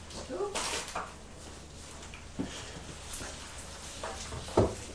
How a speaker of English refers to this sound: Don't tell Daddy, but I just opened the cupboard in the kitchen to get Purdy's biscuits and I nearly knocked the little Christmas tree over because it was on the works. If you don't tell him. I opened the cupboard door. Just caught it in time.